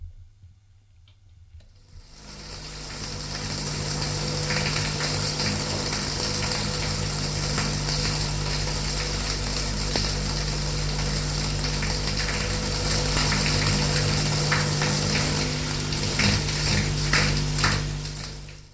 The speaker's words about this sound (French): Il se lève, fatigué, courbaturé, va à la salle de bain se raser. Et prendre une petite douche vite fait.